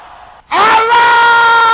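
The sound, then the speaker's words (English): After a brief low murmur, an audience of brothers and sisters, called on to shout loud and clear together, erupts into a loud, sustained, forceful shout, crying out a prayer to the God of Elijah in unison. “Brothers, can I hear you shouting that loud and clear?”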